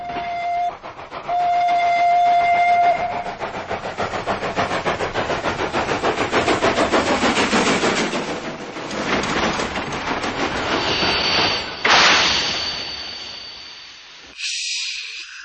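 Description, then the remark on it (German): A steam train rattles in a dense, rhythmic clatter mixed with hissing as it crosses several tracks in an island's industrial area, past warehouses and factory buildings, toward the loading ramp of an old sawmill. A steady whistle-like tone sounds early on, and a sharp high squeal comes near the end before it stops. “Eifrig dampft er durch das Industriegebiet der Insel, vorbei an Lagerhallen und Fabrikgebäuden und rattert jetzt über mehrere Gleise hinüber zur Laderampe des alten Sägewerks, wo große Mengen von Bauholz und Balken zum Verladen bereit liegen.”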